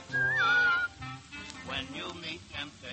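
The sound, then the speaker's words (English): A person whistles a short, clear, wavering note lasting under a second, loud, followed by a voice speaking at lower volume. “When you get in trouble and you don't know right from wrong, give her with the whistle.”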